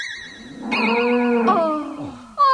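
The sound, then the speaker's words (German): A single drawn-out, loud cow moo, wavering as it holds and sliding lower at the end, with a short bright burst of sound right after it. “Ene, mene, mu, herbei, komme die Kuh.”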